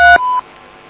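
A loud, clear telephone keypad button tone sounds once as 3 is pressed in a phone message menu, a short dual-pitch beep, followed immediately by a slightly longer single electronic beep, then near silence with no one speaking.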